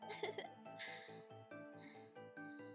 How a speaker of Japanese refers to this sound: やっぱりゲップするの気持ちいい。